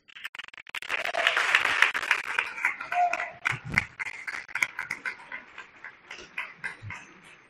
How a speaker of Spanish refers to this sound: Por ello voy a pedir la primera ovación, que no palmas, para la familia Crespo Rodero.